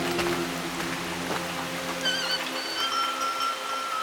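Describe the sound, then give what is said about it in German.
Heavy rain pours down in a steady, dense hiss that fills the whole scene, with faint tonal whines and a low hum drifting over it; no one speaks. “Erst soll ich ertrinken, auch wenn es so stark regnet.”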